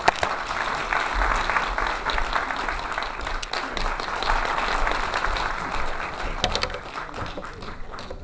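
An audience applauds warmly, a dense, steady wash of many hands clapping that holds at an even loudness for about eight seconds, with no voices over it.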